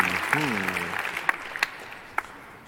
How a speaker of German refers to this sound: Ganz schön viel Applaus für so viel Uff. Auch Uff kann schön sein.